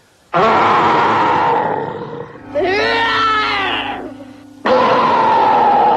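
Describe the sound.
A person growls loudly, imitating a big bear: two long raspy roars separated by a higher, wavering vocal sound with a steady low hum beneath, forceful.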